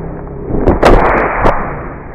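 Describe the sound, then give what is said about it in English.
A football helmet hit played in slow motion: deep, muffled booming thuds with a couple of sharper cracks around the middle, over a steady low rumble. No one speaks. “Here's that same hit you just heard, slowed way down.”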